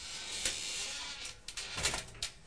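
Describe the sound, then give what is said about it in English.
An ironing board is folded down with a few sharp creaks and clunks, scraping mechanical noises coming in uneven bursts over a steady background hiss, with no talking. “There's going to be another funny noise now. I'll take the ironing board down.”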